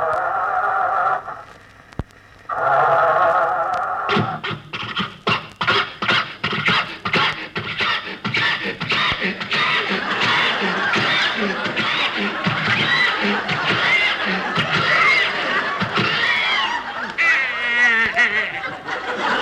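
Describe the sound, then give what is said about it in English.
An old car motor coughs and sputters in a fast, uneven run of loud putts and wheezes that falter and die out as someone tries to start the car, while audience laughter swells underneath and carries on. “Did the motor die again? It died 20 years ago.”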